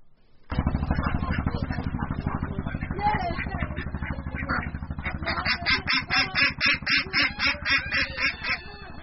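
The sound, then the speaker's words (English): A flock of ducks quacks loudly in a dense, overlapping chorus, settling toward the end into a quick, steady run of repeated quacks. The ducks live in a coop on a floating farm of bamboo and empty oil drums, attached to a riverbank near the village of Charbungara, where a woman gathers their eggs. “Hafiza Khatun is gathering eggs from the ducks that live in what is called a coop on her floating farm”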